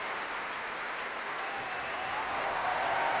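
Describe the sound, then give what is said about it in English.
Sustained applause from a large audience for the trombone and trumpet sections of an orchestra, a dense, even wash of clapping that swells slightly louder toward the end, with no voices standing out. “Section applause for trombones and trumpets there.”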